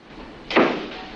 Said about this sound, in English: Morgan has an anxious glance at Murphy before following the other men out of Connolly's office. Corelli's the last to leave and closes the door.